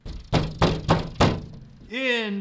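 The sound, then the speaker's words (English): Four heavy, evenly spaced knocks thud against a door, loud, followed by a short vocal sound right after the last knock. “The door. Someone?”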